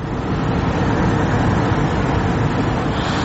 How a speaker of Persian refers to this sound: منه میبیند ساعت هم 4 صبح هست. منه این نوبتی ماشین ها برای خریدن گاز طبیعی است.